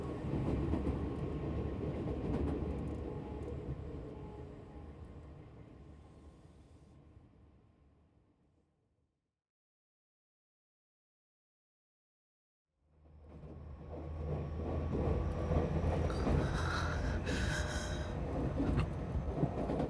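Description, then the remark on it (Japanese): Steady rumbling rail noise from inside a moving train, fairly loud, fades away to silence midway through, then returns just as full with faint clattering and a higher whine. “電車の揺れで”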